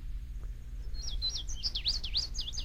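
A songbird sings a quick series of high, warbling notes that rise and fall in pitch, clear over a low steady background hum.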